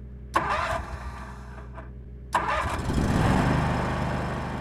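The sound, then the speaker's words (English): A picking tractor engine in a flooded field cranks over twice in quick succession, then catches and runs, its low mechanical rumble building and revving up, with no voices. “Once the water level is high enough, we return with our one-of-a-kind picking tractors.”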